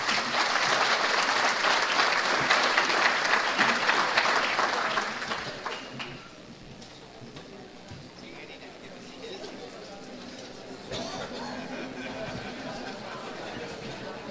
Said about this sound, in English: If we could give him another round of applause.